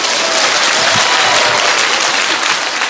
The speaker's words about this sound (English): Пожалуйста, дорогие преданные, аплодируйте в конце, когда лист, когда этот список закончит читать, пожалуйста. You can applaud if you make it short. Вы можете очень коротко аплодировать, если хотите.